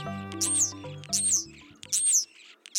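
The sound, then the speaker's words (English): A European starling calls in a clear series: three high, sweeping whistles each paired with scratchy, buzzy chatter, all over a low steady tonal hum. “European starlings arrived in North America in the 19th century, but they've lived side by side with humans since way before then.”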